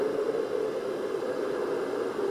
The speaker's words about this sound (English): And then I sleep with my sound machines on. This one's a quiet one. White noise is the only way that I can sleep.